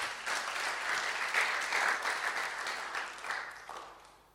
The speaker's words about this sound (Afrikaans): So ek wil sommer, kom ons geef vir die Here hande klap, dat hy ons gebruik vir dit.